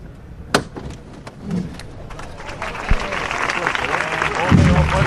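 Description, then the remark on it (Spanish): A crowd at a cofradía procession for the Virgen de la Esperanza breaks into steady applause after the float lift as the bearers regroup, many hands clapping in a dense, rising patter, with a few sharp knocks at the start and voices murmuring underneath. “Los aplausos, se recomponen los cuerpos.”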